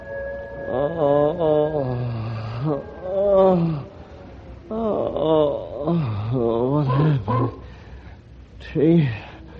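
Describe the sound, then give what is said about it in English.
Several wolves howl together from almost every direction in a wavering chorus, long rising and falling cries overlapping one another, loud, with brief pauses between bursts. “Almost in every direction, wolves.”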